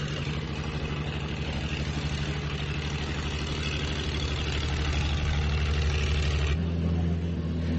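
The cranes of the salvage vessel Veli Jože working as Yugoslav salvage men slowly lift one side of a wrecked 80-ton floating crane in a harbor: a steady, throbbing low engine drone with a rhythmic mechanical pulse that shifts pitch near the end, holding loud and even throughout with no voices.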